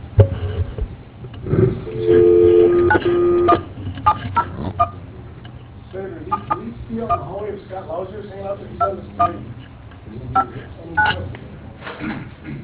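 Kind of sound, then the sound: signal or alarm, telephone keypad dialing tones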